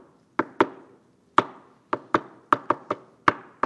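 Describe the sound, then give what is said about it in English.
A series of sharp wooden knocks on a door, about ten raps knocked to the rhythm of a song, in uneven groupings with short pauses between phrases, fairly loud with no voices. “she knocked to rhythm of songs.”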